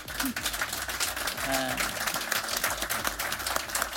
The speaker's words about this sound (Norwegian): Tusen takk. Nå skal dere klappe.